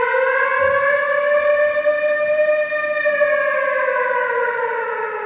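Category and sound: signal or alarm, air raid siren wailing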